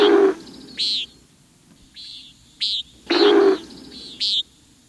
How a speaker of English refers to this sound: Or better yet, listen for them. With luck, you may witness the male's territorial display as it dives sharply toward the earth, only to pull up at the last second, while the air rushes through its wing feathers, creating a startling wallop of sound.